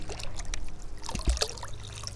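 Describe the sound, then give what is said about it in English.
Four liters of water are poured into a bird bath, a steady splashing and trickling with a few sharper drips and splashes near the middle, and no voices. “All right, we've got the 4 liters of water poured into the bird bath.”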